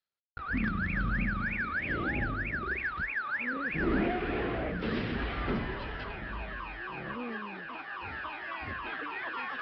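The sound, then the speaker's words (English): A loud car alarm blares from a Mercedes in a 1998 Disney movie, cycling through rapid warbling tones, while heavy thumps and crashing impacts pound beneath it as Joe destroys the car, before the alarm continues in a steadier pattern. “The stupid car alarm won't shut off, so he just destroys the car until it stops.”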